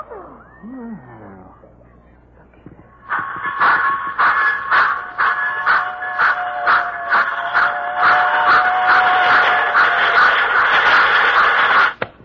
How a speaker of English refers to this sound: As you can see, I have in this suitcase a complete model railroad reduced to the size of a cigar box. Observe.